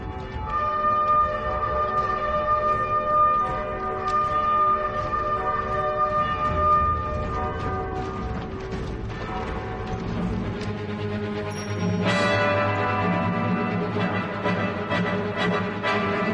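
Sustained, brassy bugle tones blare over a wash of ringing church bells sounding the ceasefire of the armistice at 11 a.m. in November 1918, loud and continuous, with the pealing growing denser and brighter partway through. No voices are heard.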